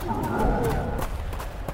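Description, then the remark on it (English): A horse whinnies loudly for about a second, with a few hoof clops thudding underneath and continuing briefly after the call fades. “The horse for sure would react to the flames, at least.”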